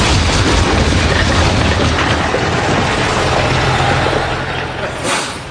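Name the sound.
bus pulling up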